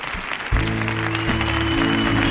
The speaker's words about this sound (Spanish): ¡Fuerte el aplauso para Mar Lender!